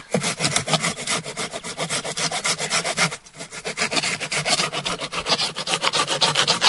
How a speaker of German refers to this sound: Wir haben das jetzt hier raufgelegt. Wir haben das jetzt auf den Stamm gelegt, genau. Und dann ich säge jetzt einfach mal los. Jetzt einfach mal los.